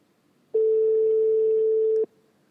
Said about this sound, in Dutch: Spannend. Hoor jij wat? Ik hoor een telefoon overgaan. Oh ja, ik ook. We hebben een beller.